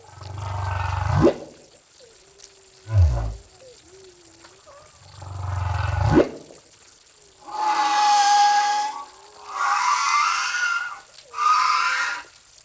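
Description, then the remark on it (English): Humpback whale song recorded underwater with a hydrophone hung over the side of a boat: deep rumbling groans and rising whoops alternate with wavering, drawn-out tones and raspy, brassy bursts, loud, with no voices. “I usually use those if I'm trying to record a humpback whale song.”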